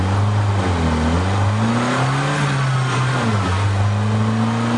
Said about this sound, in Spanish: Así suena el motor de un vehículo que usa un lubricante premium como Chevron.